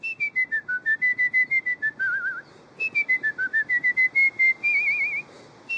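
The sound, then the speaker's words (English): A person whistles a clear melody in two bright phrases of quick repeated notes, each ending on a wavering, trilled held tone, with no talking. “And my favorite way to whistle really is just to freestyle.”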